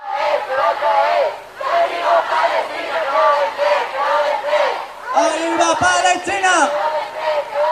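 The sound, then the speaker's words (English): A large protest crowd, protesting the latest developments over a humanitarian aid mission to Gaza, chants loudly in unison, repeating a short rhythmic phrase again and again, with voices swelling into a louder, more forceful surge toward the end. “The latest developments have also prompted protests across South America and Europe.”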